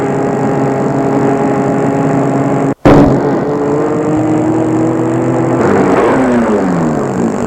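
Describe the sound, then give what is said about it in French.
A car engine hums steadily as a chauffeur drives through snow toward a chalet, with a brief break partway, then the engine note drops and winds down as the car slows to a stop. “Le chauffeur les mène le plus loin qu'il peut. Puis va s'arrêter.”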